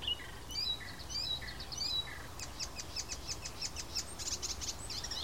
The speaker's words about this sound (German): Vielleicht ist das ein bisschen überwältigend für eure Ohren, die mäßige Qualität des Mikrofons plus den Wind plus meine Stimme und dann 2 Vögel gleichzeitig. Also 2 Arten gleichzeitig, mehrere Individuen gleichzeitig.